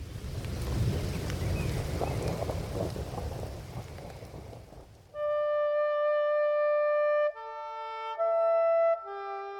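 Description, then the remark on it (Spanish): Steady, dense rain hisses loudly for about five seconds over a low rumble, then stops abruptly as sustained electronic musical tones take over. “¿Y qué elementos hacen posible que caiga la tierra de esta manera? Como lluvia.”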